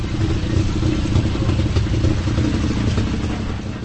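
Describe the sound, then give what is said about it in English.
The small engine of a three-wheeled Velorex, a frog-shaped cross between a motorbike and a car, runs steadily, a loud, rough, throbbing putter with faint rattling and no voices throughout. “The result was a cross between a motorbike and a car known as Velarex or Hadraplan.”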